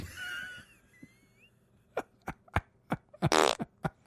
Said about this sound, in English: Farts are so funny. I don't get it. They're always think they funny are. You don't listen to this noise and find it humorous in the moment.